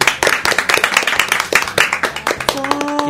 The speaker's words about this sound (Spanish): Hay dos presencias en este estudio y entonces les voy a pedir un fuerte aplauso para … y ….